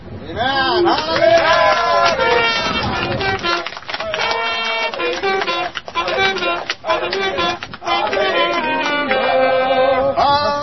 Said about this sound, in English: The Christians are cheering for murder. You heard that? Singing the Hallelujah chorus for murder.